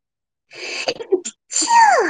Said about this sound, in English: That took a while. It took a good, like, 20 seconds to get that sneeze out, you guys.